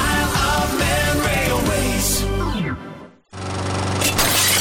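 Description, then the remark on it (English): Glass shatters loudly over a steady mechanical drone, which winds down to a brief silence before starting up again with another bright crash, as a small stone flies off and shatters a conservatory window. “A small stone just flew off and shattered the conservatory window.”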